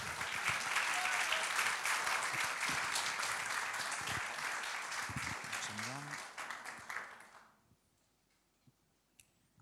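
A crowd applauds steadily to welcome guests, with dense, overlapping claps for about seven seconds, then fades out quickly, leaving near silence with a few stray claps.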